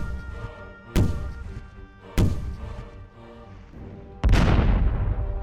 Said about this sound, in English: The pirates have spotted us, said Peter. At that moment, the pirates fired their cannon into the sky.